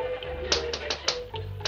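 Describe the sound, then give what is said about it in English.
A series of about six sharp knocks on a door, fairly evenly spaced with a brief pause before the last two, over a low steady background hum. “Oh, I thought I heard somebody knocking.”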